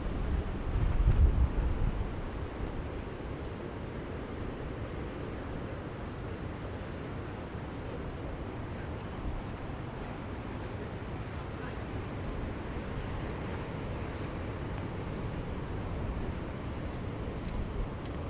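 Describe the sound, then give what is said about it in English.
Strong, cold wind roars and buffets the microphone over the rough wash of a choppy sea at Sea Houses, looking toward the Farne Islands, a steady, continuous blustery noise with a heavier gust right at the start. “it's extremely windy, cold, and the sea is so choppy, no boats are going out today.”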